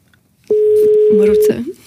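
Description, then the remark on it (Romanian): A single steady telephone ringback tone, on a call to a second phone number, sounds for about a second, fairly loud, while voices murmur and talk softly over and after it. “Păi sună undeva.”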